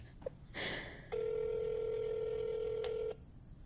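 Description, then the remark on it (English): A phone call connecting: a brief click and a short burst of noise, then one steady, mid-pitched ringback tone that holds for about two seconds before cutting off. No one speaks. “Let's get Hovain on the phone since he started all this”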